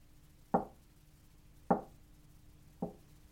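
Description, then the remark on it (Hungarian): Three firm knocks on a wooden door of a small house at the edge of a forest, evenly spaced about a second apart, fairly loud, with no voices. “Háromszor megkopogtatta az ajtót.”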